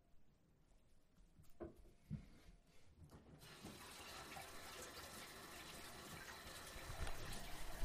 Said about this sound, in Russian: Послушайте воду. Если вас немножко это... Вы заснули, пока вот слушали все это. Вы сейчас услышите воду, и вам захочется пить или писать. И вы проснетесь.